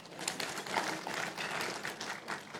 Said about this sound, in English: Well, that was like a polite golf clap. Thank y'all. Should we clap at that? I don't know. I guess so.